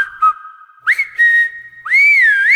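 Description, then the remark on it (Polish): Three loud whistles blown in quick succession as Maślok whistles three times in a tale of a mine treasure spirit, each sliding upward in pitch at the start and then holding a steady shrill tone, the last echoing in a corridor, with no talking. “Maślok przeżegnał się na wszelki wypadek 3 razy, a potem 3 razy gwizdnął.”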